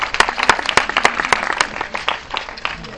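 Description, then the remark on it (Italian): An audience applauds, a dense patter of hand claps with a few sharper, louder claps standing out, holding steady for a few seconds and easing slightly toward the end. “che si aspetta un applauso, suppongo.”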